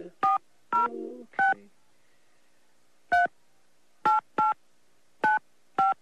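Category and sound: signal or alarm, telephone number being dialed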